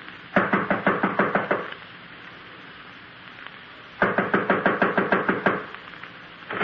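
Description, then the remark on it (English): Two quick bursts of sharp, loud knocking on a second-floor apartment door, each about nine rapid raps, separated by a pause of a couple of seconds. No one speaks. “This is it. I'll knock.”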